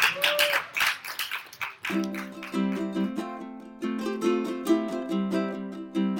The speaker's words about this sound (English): Round of applause for Jared Reck, everyone.